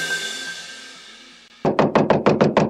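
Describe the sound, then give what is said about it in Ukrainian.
A neighbor knocks loudly: a rapid series of about eight loud, sharp knocks, evenly spaced in a quick rhythm, following a stretch of faint high-pitched hum. “Чому так голосно стукаєш?”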